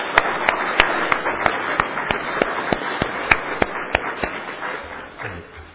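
An audience at a meeting applauds the girls and boys for their singing, a dense wash of clapping punctuated by a few sharp, louder individual claps, before it thins out and fades at the end.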